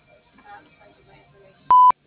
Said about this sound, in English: please leave your name, number, and message at the beep, and I will return your call as soon as I'm able.